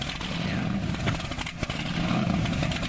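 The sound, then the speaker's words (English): A powerboat engine revs steadily and loudly throughout, a rough, throaty roar with a few brief surges and clattery bursts, with no voices. “It's a powerboat.”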